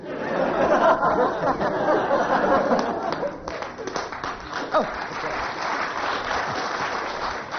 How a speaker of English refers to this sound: But it's always nice to end on rapturous applause.